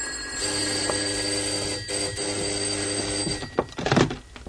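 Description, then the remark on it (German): A doorbell rings steadily for about three seconds as someone is at the door, a bright sustained electric ring, followed by a few knocks or thumps near the end. “geh doch mal auf, mach, da ist jemand an der Tür.”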